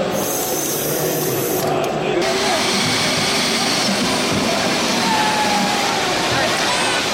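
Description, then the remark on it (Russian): A power drill with a spade bit bores steadily, a loud, continuous grinding whir with a rough, noisy texture that holds without pause from start to finish. “Перьевое сверло. По-английски спейд, то есть лопата. Сверло-лопата.”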